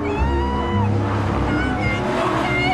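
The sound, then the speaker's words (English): A Mercedes car's engine drones steadily as it speeds along a wide road past a port, weaving from side to side. The sound is loud, with a continuous rush of road and wind noise filling the background. “The car weaves erratically from one side of the wide road to the other and speeds along past a port.”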